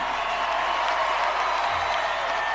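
A large audience at an awards show applauds and cheers after a performer's speech, in a dense, continuous roar of clapping that stays steady and loud throughout, with no clear individual voices standing out.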